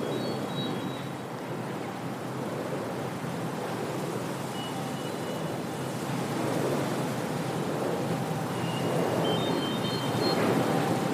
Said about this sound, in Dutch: Nee, je hoort de wieken van de windmolens die daar ook naast staan.